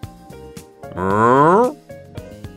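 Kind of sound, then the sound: animal, cow mooing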